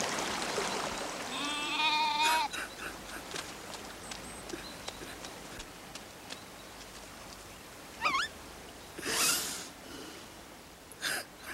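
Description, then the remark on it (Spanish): Goats around a house with several small children and chickens; one gives a loud, quavering bleat, then a shorter rising call several seconds later, with scattered outdoor rustling and brief bursts of noise in between. “Se acerca a la casa de Nayaf, a cuyo alrededor hay varios niños pequeños, gallinas y algunas cabras.”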